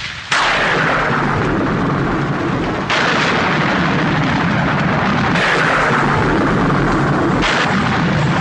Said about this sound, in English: You know, that thunder sound effect, I think that was borrowed for Amityville 2, The Possession. It sounds just like Amityville 3. It's a real vicious one, right?